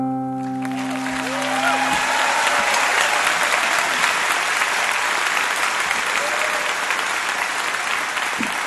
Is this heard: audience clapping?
yes